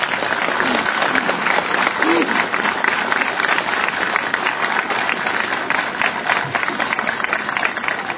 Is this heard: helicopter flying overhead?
no